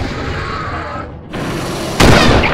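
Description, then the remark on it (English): A dense, rumbling wash of noise briefly dips. Near the end, a single loud, sharp shot from a Holland & Holland .475 Nitro Express rifle cracks out, blasting a plant's main trunk at ground level, and spreads into a sustained booming roar echoing along dunes. “Then a deafening report split the day, and the main trunk erupted at ground level.”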